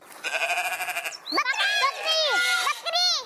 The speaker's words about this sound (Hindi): जी ये बकरी थी।